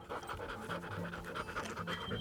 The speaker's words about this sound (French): C'est pourquoi il sort la langue, il inspire et expire de l'air très rapidement. Cette respiration accélérée et peu profonde lui permet de réguler sa température.